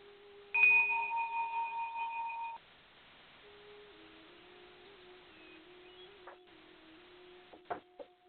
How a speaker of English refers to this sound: I have my candle lit. And we'll ring the bell 3 times.